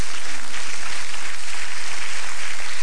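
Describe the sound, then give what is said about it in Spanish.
Steady applause from an audience for the God of glory fills the whole stretch, a dense, even wash of many hands clapping at once with no voices standing out. “Dele un aplauso al Dios de la gloria.”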